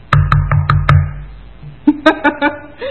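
Five loud, close knocks land in a quick, even rhythm on a hard surface with a hollow thump, then a short pause before a few more sharp, ringing raps follow.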